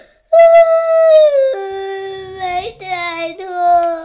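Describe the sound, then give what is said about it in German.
A child's voice howls like a dog, loud: one long, sustained wavering howl that steps down in pitch, then breaks into a few shorter howling bursts. “Ich bin da mein Hund.”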